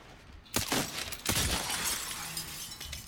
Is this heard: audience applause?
no